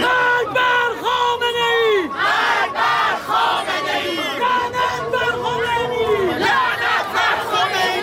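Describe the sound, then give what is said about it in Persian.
Thousands of opposition protesters in Paris chant slogans together while marching from Place de la Bastille to the central city hall. Many voices rise and fall in loud, rhythmic bursts with sustained cries over a constant roar, no single speaker standing out. “هزاران تن در حالی که شعار می دادند و نمادهایی از مهسا و دیگر جان باختگان اعتراضات را در دست یا بر سر داشتند، از میدان باستیل تا شهرداری مرکزی پاریس راهپیمایی کردند.”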